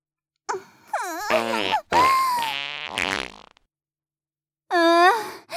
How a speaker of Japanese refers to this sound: 出てる、出てるわ。私のお尻から、おならがブリブリ。こういういおならが、あなたの鼻孔に注ぎ込まれていくわ。